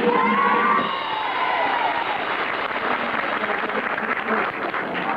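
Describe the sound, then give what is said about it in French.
A studio audience at a card-guessing game show bursts into loud, sustained applause mixed with cheers and whoops as a king of hearts is revealed, a dense wall of clapping that stays strong for several seconds with no one speaking over it. “Vous avez entendu les applaudissements qui vous annoncent un roi de cœur.”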